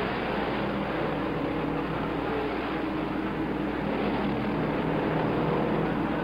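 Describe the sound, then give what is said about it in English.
Stock cars roar around a racetrack as A.J. Foyt's No. 21 and Bobby Allison's No. 12 duel side by side, Foyt working the draft to regain the lead; a loud, continuous engine drone with steady whining tones that never lets up, with no voices. “Bobby's car is on the left. A.J. Foyt on the right. And Foyt, working with the draft, regains the lead.”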